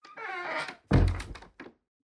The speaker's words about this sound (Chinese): 为何关门？姐姐还有两位哥哥，你们不是要打听天御宫吗？关门是为了没人能打扰我们喽。